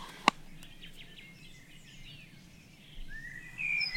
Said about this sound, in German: Ich habe von beidem eine Kohlmeise gehört. Wir werden das auch nochmal notieren. Ja. Das ist also jetzt 4.30 Uhr. Wäre also die Kohlmeise. Die ein mehr ein Waldvogel ist, hier jetzt so nicht so typisch ist.